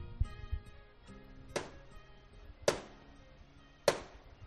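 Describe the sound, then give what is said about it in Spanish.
Three loud, sharp knocks by the parish priest on the great door of the parish church of San Pedro y San Pablo in Granada, Spain, on a rainless night, starting the Procession of Silence, evenly spaced about a second apart, each ringing briefly before fading, with a faint low rumble of background noise between them. “El párroco de San Pedro y San Pablo ha golpeado 3 veces el portón de la iglesia parroquial ante la que nos encontramos y comienza a discurrir la procesión del silencio”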